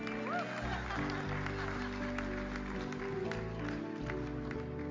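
An audience claps and cheers in a steady, dense burst for about five seconds, the applause fairly loud and continuous over a low sustained musical drone.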